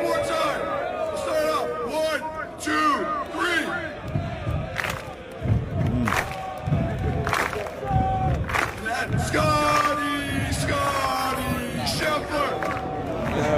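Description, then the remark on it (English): A large crowd chants and shouts in unison over a dense roar, with repeated heavy thuds of feet stamping on bleachers in a loose rhythm. “You want the whole crowd rocking when you stamp it on the bleachers, all right?”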